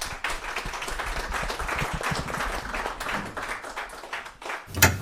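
A crowd claps steadily in sustained applause as a reader is called onto the stage, a dense patter of many hands at moderate volume, with a sharper burst near the end.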